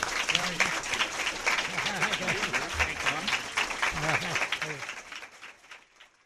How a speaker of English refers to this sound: That concludes our debate. A round of applause for the candidates, please.